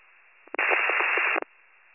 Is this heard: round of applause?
no